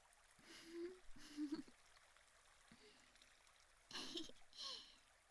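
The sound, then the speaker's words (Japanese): Soft, continuous rush of river water flowing and trickling in the background as people cool off in the river, with a few short bursts of indistinct voices rising briefly over the steady stream. “こうやって川で涼んでいると心和みますね。”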